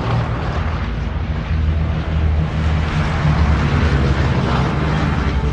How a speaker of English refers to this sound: A plane flies overhead, silhouetted against the sky. More planes take off from the runway. Letters on the side of one read JJ.